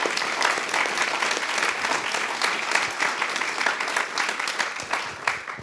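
Sustained applause from a sizable audience for a panel of speakers at a discussion event, a dense wash of clapping hands that stays steady and fairly loud for several seconds without any voices standing out.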